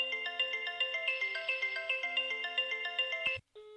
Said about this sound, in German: Ich rufe jetzt mal bei mir zu Hause an, auf dem anderen Festnetztelefon. Da wird jetzt wahrscheinlich auch gleich im Hintergrund noch das Telefon aus dem Wohnzimmer bimmeln. Schauen wir mal.